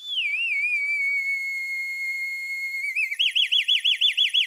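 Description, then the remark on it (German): A shrill, flute-like whistle alarm of a water clock, made by air pushed through a flute, sounds loud, holding a steady pitched tone before breaking into a rapid, pulsing warble near the end. No voices are heard. “Die Luft wird durch eine Flöte geführt und die erzeugt den Weckton.”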